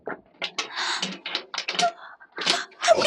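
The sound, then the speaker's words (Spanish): A door is opened by a man carrying a tray of food, with a series of rattling clunks and scraping bursts as the latch and hinges move, then a final louder clatter. “¡Abrió la puerta!”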